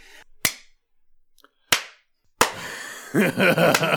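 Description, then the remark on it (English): Three sharp, loud hand claps spaced roughly a second apart, each trailing off with a short ring, followed by a dense, rustling wash of noise. “You hear a clapping from behind you.”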